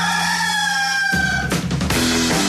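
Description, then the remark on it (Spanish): A rooster crows loudly, a sustained harmonic call that shifts into a rougher, broader burst partway through, heard on its own without any talking. “Este es el gallo.”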